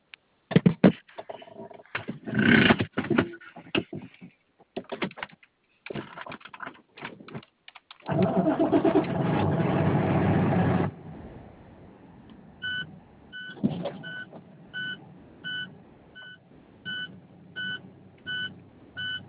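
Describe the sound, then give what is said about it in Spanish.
After a series of sharp clicks, the engine of a white and gold 2017 International vehicle catches with a loud roar, then settles into a low steady idle while a quick electronic beep repeats at regular intervals. “Permíteme dejarlo hecho andar.”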